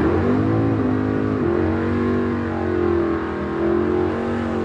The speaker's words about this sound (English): Cars painted colors right out of a gumball machine line up in lanes, revving to go. Two at a time, they nudge up to the starting line at the 8th-mile track, spinning their tires to get warmed up.